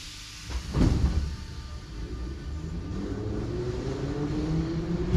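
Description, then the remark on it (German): A loud, continuous rumble of a St. Petersburg metro train with 1950s-era carriages running through a tunnel, with a heavy clunk near the start followed by steady rattling and a rising whine as it picks up speed. “Ihre Waggons aus den 50er Jahren rattern mit einem Höllenlärm durch die Tunnel”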